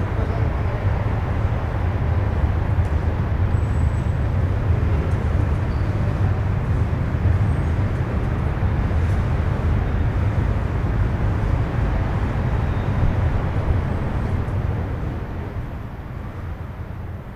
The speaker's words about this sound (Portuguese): A dar entrada na linha número 8 do comboio procedente de Zambuja com destino a Lisboa Santo António.